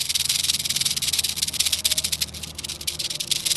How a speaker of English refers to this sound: squeezes the snake's head, yellow venom dripping down its fangs. Yep, still rattling. He's going to town, man.